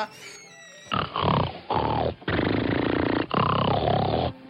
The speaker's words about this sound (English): He just snores so lovely.